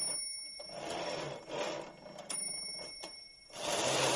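The bell of a typewriter with three rows of keys and a motor that winds up its spring rings with a steady, high metallic tone that lingers throughout, over busy mechanical clacking and whirring from the machine. No one speaks.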